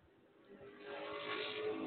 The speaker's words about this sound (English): Aaron Van Fleet pulling out to a good lead now as he leads number one by three car lengths over Zach Todaro. The number 95 car of Van Fleet pulling away even more down the back stretch over Todaro. He's got a four car lead going into three and four.